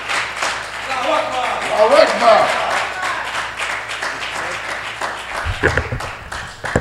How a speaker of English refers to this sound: Let's bring him up with an incredible round of applause.